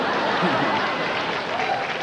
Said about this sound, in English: Oh my God, they got an applause break.